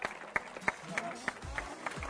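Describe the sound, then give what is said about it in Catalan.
Scattered audience applause at a medal ceremony as an athlete is called up on stage: a thin, irregular run of sharp claps, fairly quiet, with low murmuring voices beneath. “És que necessiteu que aplaudiu més fort, eh?”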